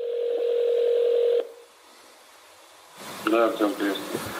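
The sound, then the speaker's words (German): A steady electronic telephone tone hums for about a second and a half, cuts off into a brief quiet gap, and then a man's voice begins speaking over the line. This is the prank phone call from the Navalny film that exposes a man who tried to poison Alexei Navalny. “Zuhörern werden ihn auch kennen aus dem Nawalny-Film, weil er dort zusammen mit dem Alexei Nawalny einen Täter überführt, sozusagen mit einem Telefonstreich oder mit einem Anruf überführt, der versucht hat, den Alexei Nawalny zu vergiften.”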